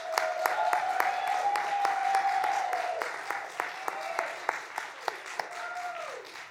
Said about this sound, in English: I see that we have someone who's visiting us all the way from college. I want to give her a round of applause.